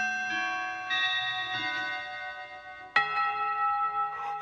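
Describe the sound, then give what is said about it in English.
A clock bell strikes one o'clock with a single bright metallic clang, its rich overtones ringing and slowly fading after earlier chiming tones hum in the background. No one speaks. “One o'clock.”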